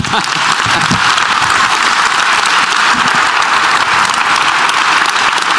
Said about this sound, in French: Merci beaucoup d'avoir été présent. Peut-être des applaudissements pour le Premier ministre.